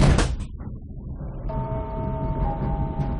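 A short burst of hiss and a thud like sliding doors shutting, followed by a low rumble as a steady, rising electric whine sets in as the train pulls away.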